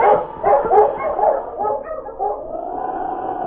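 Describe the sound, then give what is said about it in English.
The dog King barks several times in quick, uneven succession, moderately loud, then trails off into a drawn-out whining tone, while following a scent trail through falling snow. No one speaks. “The great dog King unerringly picked up the scent in spite of the falling snow and headed toward a lake several miles south of Selkirk.”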